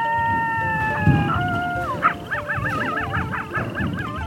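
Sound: wolf howling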